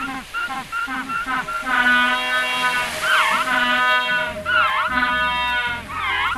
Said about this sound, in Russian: Чевостик, нас встречают первые южноамериканские обитатели. Нелетающие птицы пингвины.